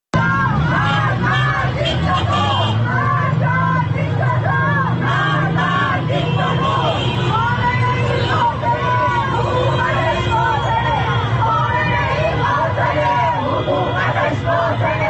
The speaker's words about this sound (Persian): بنابر گزارش های رسیده به رادیو فردا، به دنبال انتشار خبر جان باختن مهسا امینی، تجمع های اعتراضی در نقاطی از شهر تهران برگزار شد. در این اعتراض ها شعارهای علیه مقام های حکومتی از جمله علی خامنه ای سر داده شد.